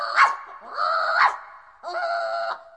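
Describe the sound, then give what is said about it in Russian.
A small dog gives three high-pitched, whiny barks in quick succession, each drawn out into a short yelp, fairly loud with no talking. “Сюда бежит фарфоровая собачка.”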